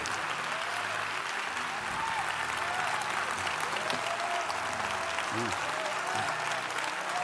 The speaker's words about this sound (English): Come on, Louisville. Come on, Prosper. Come on, Dallas. Come on, let's give him a round of applause as he comes up to deliver God's word to us today.